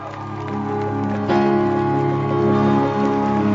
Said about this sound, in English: Hallelujah, with a great shout of applause unto the Lord.